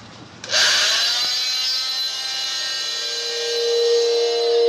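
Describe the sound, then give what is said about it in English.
A power saw whines up abruptly and grinds steadily through bone during an autopsy of an adult female body, its high-pitched buzzing tone holding loud and continuous, shifting slightly in pitch as the blade bites, with no voices over it. “Commencing section of bone.”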